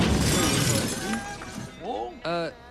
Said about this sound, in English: Hauptbahnhof Station, Berlin, Germany, 10:12. The train arrives and a window panel cracks off.